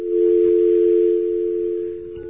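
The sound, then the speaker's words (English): A steady, continuous telephone dial tone hums at even loudness for the full couple of seconds, heard alone with no voices over it. “Can we get a dial tone here? See if we can get one of our magical dial tones.”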